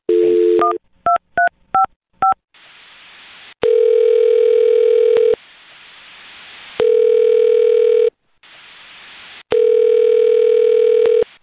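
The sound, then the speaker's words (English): A short series of touch-tone beeps dials a woman's phone number, then the phone line rings in steady repeated buzzing tones with pauses between rings, clear with no talking. “All right, well, I'm going to dial her phone number right now and see if we can help you out.”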